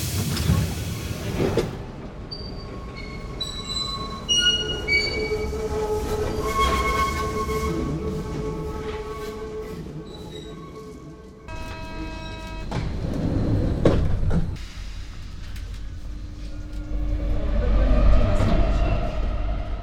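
A Paris metro train rolls into a station, its heavy low rumble joined by stepped electric motor whines and high squealing tones that shift in pitch as it slows, with no talking.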